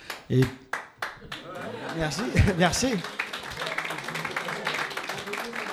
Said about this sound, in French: Merci, surtout que c'est un jeune qui m'applaudit, ça fait plaisir.